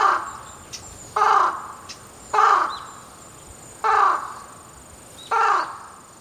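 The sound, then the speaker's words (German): A crow caws four times in a slow, evenly spaced series, each harsh call loud and roughly half a second long, with a faint steady hiss in the background between calls, on the Kumano Kodo pilgrimage route in Japan. “Schreinen die Götter angerufen haben, die Ahnen raunen, den Krähengott schreien hören oder sogar die Riten der Yamabushi mitmachen.”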